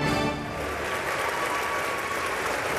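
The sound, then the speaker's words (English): A large crowd applauds steadily in the House of Representatives chamber as Republicans elect Mike Johnson Speaker of the House, a dense, sustained wash of many hands clapping at once, loud and even throughout with no voices standing out. “Applause rang through the House of Representatives this week as Republicans, after weeks of infighting, elected Mike Johnson as the new Speaker of the House.”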